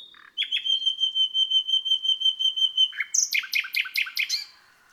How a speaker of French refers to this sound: Le rossignol.